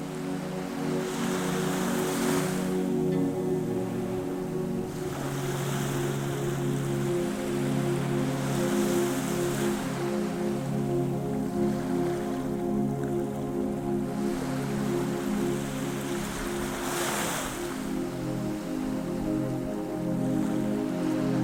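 Sea waves wash steadily onto the shore, a continuous hiss that swells and recedes every few seconds, with soft sustained musical tones humming underneath and no voices.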